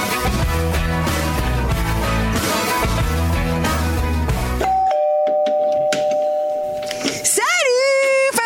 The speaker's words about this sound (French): sonnent à la porte de son pavillon de banlieue à Armentières